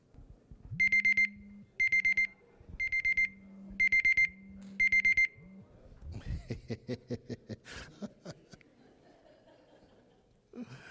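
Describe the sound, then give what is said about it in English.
An electronic alarm clock beeps loudly in five quick bursts of rapid pulsing tones, then stops and gives way to a few seconds of chuckling and shuffling noise. “The same thing is true with your alarm clocks, by the way.”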